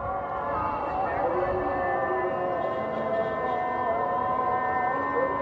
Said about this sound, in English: As the spring Hamasin winds whip desert sand across the city, the call of peddlers and the honk of horns are suddenly submerged in a wave of muazzins, their chants bouncing off one another and melting into a puddle of sound.